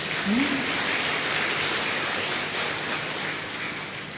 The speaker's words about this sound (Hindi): इसके आप सब मुबारक के पात्र हैं। हाँ, अच्छी तरह भले ताली बजाओ अपने लिए।